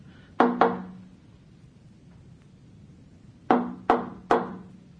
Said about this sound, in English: Well, I really feel we ought to see if he's all right, don't you? Yes, I do. Shall I knock? Yes.